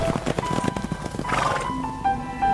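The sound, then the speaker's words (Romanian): A pony, filmed with a phone, whinnies in a high, wavering call while hooves clop in a quick, uneven rhythm at the start. No one speaks over the sounds. “Își filmează ponei cu telefonul.”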